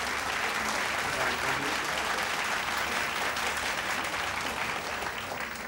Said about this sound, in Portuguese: É uma faculdade. Os alunos o aplaudem.